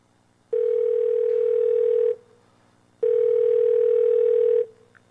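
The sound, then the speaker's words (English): A steady, electronic telephone tone sounds in two long, even bursts separated by a short pause, heard through a mobile phone's receiver as a phone call is being made, with no voices. “So if you don't mind, I've just got a quick phone call to make, and I just thought now would be a good time to do it, because I just need to speak to somebody in management.”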